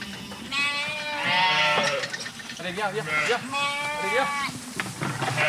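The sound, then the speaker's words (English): A flock of 80 black-faced Suffolk sheep bleats loudly at feeding time as a farmer feeds them, several wavering, overlapping calls rising in two bursts, with a busy farmyard murmur underneath. “is feeding his 80 black-faced Suffolk sheep.”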